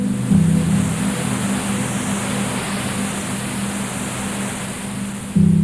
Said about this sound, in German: sogenanntes weißes Rauschen, das mit dem Rauschgenerator erzeugt wird.